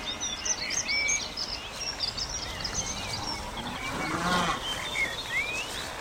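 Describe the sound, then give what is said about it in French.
A cow lets out a single low moo partway through, set against breezy outdoor farm ambience with small birds chirping and twittering throughout. “Et puis on va se diriger vers le lot de vaches.”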